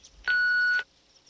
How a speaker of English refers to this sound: I'm in right now, so you can talk to me personally. Please start talking at the sound of the beep.